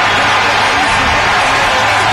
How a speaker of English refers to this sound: You heard the crowd going crazy here at FedEx Field. They saw the score update on the Bears.